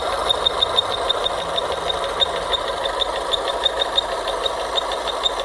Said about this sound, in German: Dicker Beat. Immer schwierig, wenn man das nur so hört. Könnte irgendwie. Alles sein. Ja, ne? So Luft aus dem Abgastrakt, die also irgendwo entweicht, wo sie nicht entweichen soll.